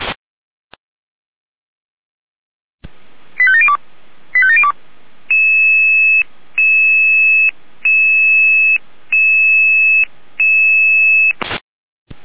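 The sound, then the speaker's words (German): Emergency radio dispatch alert tones in Jena: two quick warbling chirp bursts, then six steady, loud electronic beeps at an even pace, each about half a second long. No voices. “Jeder mit Alarmierung.”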